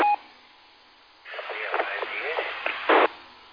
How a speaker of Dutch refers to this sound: Ja, ik hoor wel een station, maar het zit wel ver in de ruis.